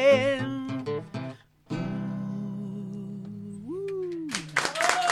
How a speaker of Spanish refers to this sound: No sé si se escuchan los aplausos.